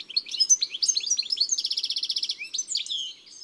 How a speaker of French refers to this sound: Ça, c'est un joli chardonneret. Avec son chant typique. Pas de mélodie particulière, mais un joyeux gazouillis. C'est animé, léger.